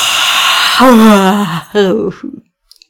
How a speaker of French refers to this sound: Allez, c'est parti pour un tour. On fait une grande inspiration en faisant du bruit avec le nez. Et on bâille.